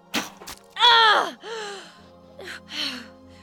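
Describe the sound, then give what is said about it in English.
A woman gasps and groans in agony as the Amazon general Molpidia, shot through the heart with an arrow by Penthesilea, sinks to her knees dying: a quick sharp intake followed by several strained, breathy moans that fall in pitch, fairly loud, with no words spoken. “The Amazon sank to her knees, gasping in disbelief.”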